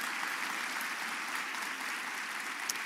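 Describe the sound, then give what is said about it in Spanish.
A crowd claps steadily and loudly for Jesus for a few seconds, a dense, continuous wash of many hands applauding together with no pauses. “Aplauda a Jesús, apláudalo fuerte.”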